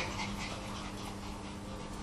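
A dog whimpers softly amid a steady, hissy background noise, its faint whining held low and continuous for a couple of seconds, with no one speaking.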